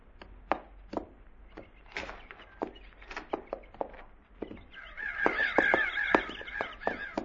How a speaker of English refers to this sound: Them crows we flushed back there went back to eating again.